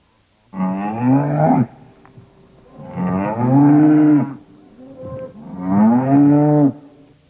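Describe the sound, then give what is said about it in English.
A cow moos three times in a row, each call long and drawn out with short pauses between, loud, with no other sounds around it. “Did you circle the cow for this sound?”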